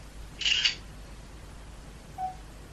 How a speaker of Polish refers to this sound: Dobrze, i tak zrobię zdjęcie. Wykonywanie zdjęcia.